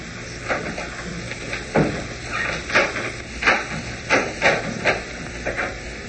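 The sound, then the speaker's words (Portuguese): A door being opened, with a run of about eight sharp thumps and rattles at an uneven pace over a steady hissing background. No one speaks. “Bom, vamos ver o que há por trás desta porta”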